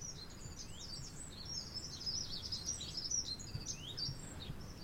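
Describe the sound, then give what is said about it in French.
A small bird sings about one metre to the left in a continuous run of high, quick chirps and trills, with a steady low background rumble and no voices. “Regardez, il est à 1 mètre à gauche. Il va se mettre à chanter.”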